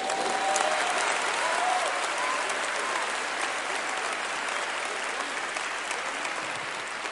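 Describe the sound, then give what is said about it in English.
An audience claps their hands together in a dense, steady wash of applause that holds for about seven seconds, easing off slightly toward the end, with no one speaking over it. “All the witnesses, clap your hands.”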